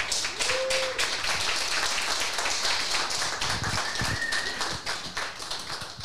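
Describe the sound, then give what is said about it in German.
A crowd claps steadily for several seconds for the people who organised the event, a dense, continuous patter of many hands with a faint whistle or two rising above it, no talking. “Einfach gerne mal einen Applaus für die Leute, die das organisiert haben hier.”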